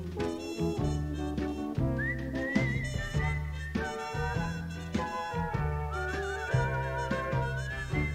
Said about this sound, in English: I was wondering when we were going to hear that famous … whistle.